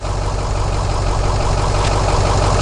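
A bus engine idles steadily, a continuous low rumble with a faint rhythmic chug at an even loudness, with no voices, as a passenger steps off the number 84 bus from O'Connell Bridge and talks to the conductor.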